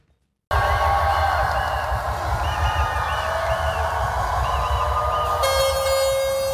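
A loud, continuous roar of the crowd at the 2020 Sydney Mardi Gras Parade cheering on people who took part in the first Mardi Gras March in 1978, with warbling whistle-like tones over it and a steady horn blast sounding through the final second.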